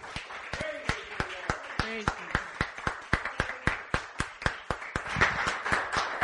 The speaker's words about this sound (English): Praise the Lord. Give the Lord a cheer.